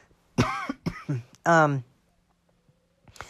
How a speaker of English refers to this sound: Sorry, I'm still sporting a slight cough. So if I cough, I apologize.